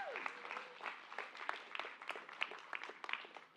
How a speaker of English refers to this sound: I should have everybody in the room clapping on that one.